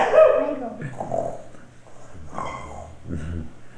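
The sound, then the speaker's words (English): A voice imitates snoring, making about four rough, growly rumbling breaths in a slow, uneven rhythm, moderately loud, with no words spoken. “Snoring. … snoring.”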